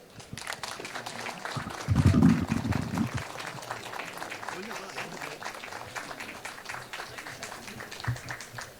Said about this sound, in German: Ich bin sehr gespannt, ich hoffe, ihr seid auch sehr gespannt. Bitte Applaus für die beiden.